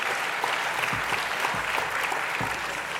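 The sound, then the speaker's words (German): Steady applause from a group, dense clapping with sharper individual claps standing out, sustained at an even level for about three seconds with no talking. “Wem gilt jetzt der Applaus?”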